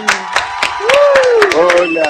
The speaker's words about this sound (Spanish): Lo vamos a recibir con un enorme aplauso al señor Pablo Alarcón.